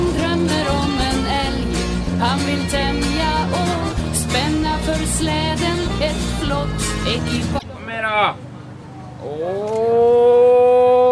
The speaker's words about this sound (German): Eriks Vater, zuständig für die deutschen Erklärungen, ruft die Elche zusammen. Und kein Wunder, sie hören auf ihn und kommen.